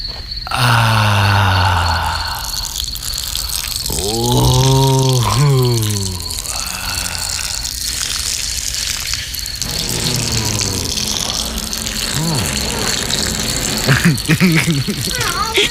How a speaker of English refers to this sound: Hey, man, it's raining out here, you guys. Wow, you gotta see this coming down like cats and dogs, man. Oh, it's a cloudburst.